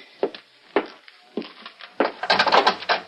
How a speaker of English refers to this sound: I gotta bust down this lousy door. Okay.